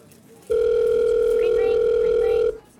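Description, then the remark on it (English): A steady electronic telephone tone sounds loud and unbroken for about two seconds as a man speed-dials on his phone, then cuts off, with no voices and only faint background noise around it. “takes up his phone and speed dials”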